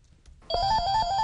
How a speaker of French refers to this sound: Dans une salle de la Commission nationale anticorruption, le téléphone ne cesse de sonner.